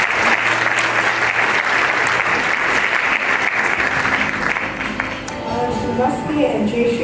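A crowd claps loudly and steadily for several seconds, a dense roar of many hands with a few cheers mixed in, the applause thinning slightly toward the end.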